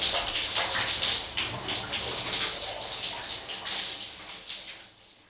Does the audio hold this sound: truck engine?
no